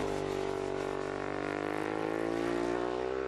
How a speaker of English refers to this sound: That's a Ducati 1098R. Xerox sponsors a team of the racing superbikes.